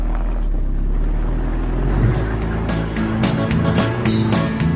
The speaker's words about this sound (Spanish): Regresé a mi coche y me fui rodando por las calles desconocidas.